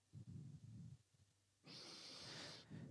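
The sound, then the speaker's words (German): Deep breaths, one of three taken in a row: a low, rumbling inhale followed by a long, hissing exhale, with another breath just beginning at the end. No talking. “Das heisst, ihr müsst euch vorstellen, um die 60 geht in seine GL und sagt, ich würde heute gerne das Meeting anfangen mit 3-mal schnaufen.”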